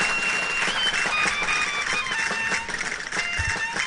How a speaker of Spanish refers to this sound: Aplausos, sí, parece.